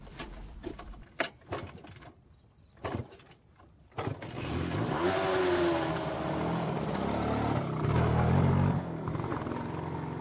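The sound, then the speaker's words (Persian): A stalled motorcycle engine sputters and clicks a few times as the rider restarts it, then catches at about four seconds and revs up loudly, its pitch rising and holding steady as he rides away. “موتور خاموش میشه. دوباره روشن میکنه.”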